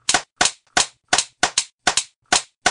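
Sharp, loud hand claps ring out one after another, about a dozen in a slightly uneven rhythm, some landing in quick pairs, with short silences between and no voices.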